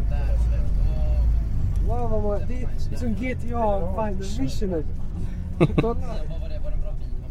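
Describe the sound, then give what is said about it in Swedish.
Inside a noisy bus, a steady low engine rumble fills the space while a group of teenage boys sitting around the listener chat and laugh, their talk overlapping the constant drone. “Och eftersom volymen i bussen är ganska hög så är det ingen som riktigt hör vad jag säger.”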